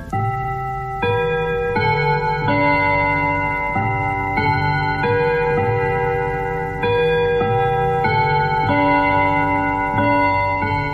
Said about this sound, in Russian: Часы стучат, часы звенят.